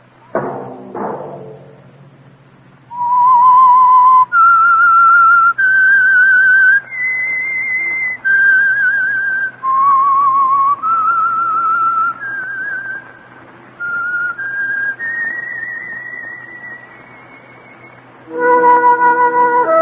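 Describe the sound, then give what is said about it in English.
A lone whistled melody of sustained, clear notes stepping up and down in pitch, loud, preceded by a couple of soft thuds and ending on a fuller musical chord; the whistled theme of a radio program. “Let that whistle be your invitation to listen to the Household Finance Corporation program, The Whistler, each week over these stations”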